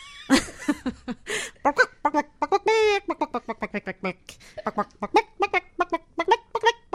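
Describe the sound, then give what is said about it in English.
A person imitates a chicken clucking with their voice, a quick run of short, bright, rhythmic clucks and squawks rising and falling, fairly loud, with no other sounds around it. “So a standard cluck would be”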